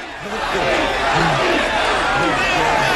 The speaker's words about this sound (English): Rocky pummels Tommy in the stomach again and again. Until he finally floors him with an uppercut. The crowd go wild, and Adrian and Robert hold him up.